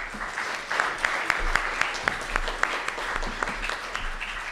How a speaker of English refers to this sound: So just another round of applause for them. Thank you.